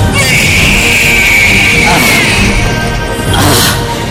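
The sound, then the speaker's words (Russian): A loud, strained yell of pain held for about two seconds, followed shortly by a second harsh cry, both raw over a dense, noisy background. “И вот он, ваш первый крик, ваш первый шоу-тайм.”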